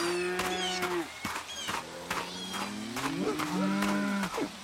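Several cows grazing in a pasture moo in long, low, drawn-out calls that overlap one another, with a steady outdoor background and occasional soft rustling bursts.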